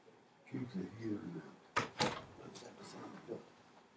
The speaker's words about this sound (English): So first off, I'm going to close that door real quick so I don't want to get too distracted.